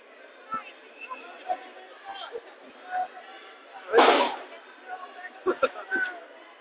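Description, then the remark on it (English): A large outdoor crowd of about 5,000 or more people, many with dogs and chairs, waiting in a big queue, chatters in a steady, dense murmur of overlapping voices, with a few sharp thumps and one louder burst of noise cutting through midway. “It's got the atmosphere of a festival. It's quite good natured and peaceful.”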